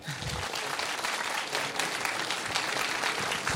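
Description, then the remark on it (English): Steady audience applause after a talk, a dense wash of many hands clapping at once, sustained and fairly loud throughout without any voices standing out. “Thank you all for coming, and please give another warm round of applause”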